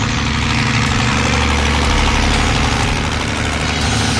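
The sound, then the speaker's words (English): A Caterpillar tractor engine, a cat used for freighting in the Canadian wilderness, idles steadily, a loud, continuous low rumble with a throbbing mechanical rhythm and rattling vibration, with no one speaking. “The cats are a passe way of freighting.”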